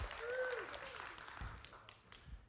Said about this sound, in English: How many of you are thankful God still wants to use you? Let's applaud God for that. Thank you, Lord.